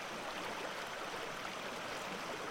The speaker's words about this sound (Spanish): Escuchando al río, quizás podemos sentir las historias innumerables que él podría contarnos.